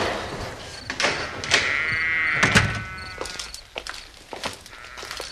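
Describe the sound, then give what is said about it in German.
A wooden stable gate creaks open with a drawn-out, wavering squeal, followed by several dull knocks and rattles, with faint animal rustling in the background. “Das Stalltor.”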